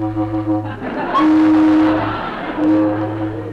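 A loud car horn honks in a couple of long, steady blasts over a low engine rumble, dominating the scene, sounded at the Mountain View Auto Court to bring somebody out.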